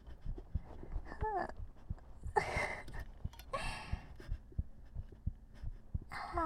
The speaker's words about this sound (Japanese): 炭酸の音。あ、開きました。開いた音した。